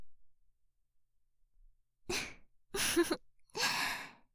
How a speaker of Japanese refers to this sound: 今、結構大きめのあくびしちゃいましたね。そろそろ眠くなってきたみたいですね。